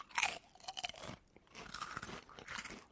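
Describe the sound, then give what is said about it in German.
Loud crunching of a sweet chili crispy snack being bitten and chewed, several bursts of brittle cracking separated by short pauses, with no talking. “Wir können ja mal hier, habe ich noch gar nicht probiert. Knuspern.”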